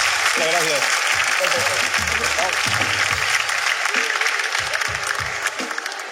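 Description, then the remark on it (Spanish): Sustained audience applause for the doctor on the show Vidas Extremas, a dense, steady wash of many hands clapping at full volume throughout, with a few voices talking and calling out underneath. “¡Un fuerte aplauso para el doctor”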